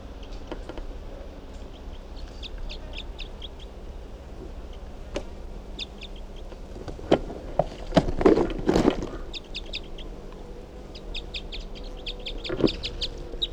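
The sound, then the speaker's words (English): A just-captured wild bird, bird number 369, calls with harsh, fowl-like clucks and a loud squawking burst partway through, over steady background chirping from other birds and a low hum. No one speaks. “So recording, that last bird was just captured, and that'll be bird number 369.”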